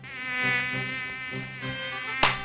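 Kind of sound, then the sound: insect, mosquito buzzing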